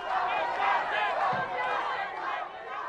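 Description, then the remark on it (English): A large crowd of hundreds of protesters chants and shouts together in a dense, continuous roar of many voices, loud, with rhythmic swells like marchers calling out in unison, marching on a drug dealer's home. “Crowds in their hundreds would march on a dealer's home, and all factions of life would be present.”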